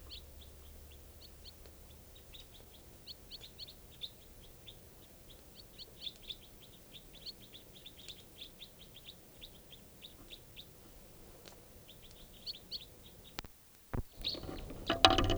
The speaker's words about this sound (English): Recording at 5:05 p.m. and there's a flock of wild crossbills here, about 8 birds up in the top of a tall lodgepole right above camp.